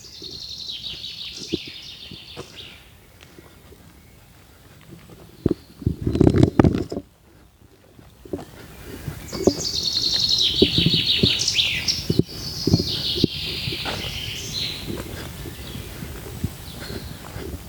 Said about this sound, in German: Das klingt eigentlich so gut, dieses Vogelgezwitscher. Ja. Das könnte schon fast, dass die Leute denken, wir haben da so eine peinliche Tonspur drunter gelegt, ne? Hm. Findest du nicht? Weil das so authentisch, das klingt so übertrieben gut.